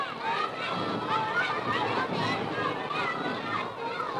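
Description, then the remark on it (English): A noisy crowd of children chatters and shouts as they rush in from all parts of a schoolyard, called in by a school bell, with a dense, continuous babble of young voices and bustling movement. “And it brought the kids thundering in from all parts of the schoolyard.”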